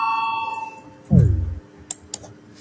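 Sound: parliament voting bell ringing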